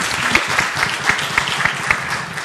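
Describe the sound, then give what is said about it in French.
An audience applauds the Canalu team before their work is shown, many hands clapping in a dense, continuous wash with a few sharper claps standing out, moderately loud throughout. “Je crois qu'on peut leur faire un bon bond d'applaudissement avant de voir leur œuvre.”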